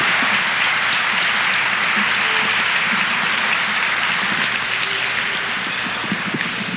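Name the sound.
audience applause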